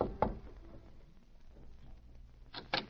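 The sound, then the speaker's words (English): Northcott knocks on the door of Powell's house: a single sharp rap, a pause, then two more quick knocks in succession, heard alone over a low background hum. “It was about a half an hour later when Northcott rapped on the door of Powell's house.”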